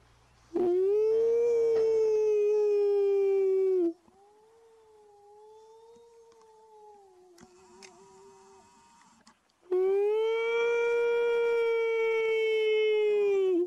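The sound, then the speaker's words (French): Wolves howl in long, wavering calls in response to a man: a loud howl, then a softer answering howl, then another loud sustained howl, with no talking. “Mais, on a un petit clip parce qu'il y a quelqu'un qui t'a déjà baptisé de étant l'homme qui parle au loup.”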